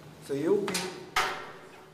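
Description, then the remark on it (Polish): Two sharp mechanical clacks about half a second apart as a police restraint chair is opened and shut, loud, with a brief voice just before them. “Kiedy takie krzesło jest używane na policji, to stoi na ziemi. Otworzę je i pokażę, jak działa.”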